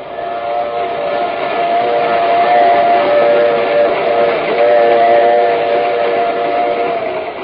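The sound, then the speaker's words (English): A train whistle blows loud and steady for several seconds over the constant roar and rattle of a train doing 75 miles an hour across the prairie, heard from its baggage car, with no pauses or voices. “I was sitting on a crate in the baggage car of a train that was doing 75 miles an hour, but seemed to be creeping over the endless prairie.”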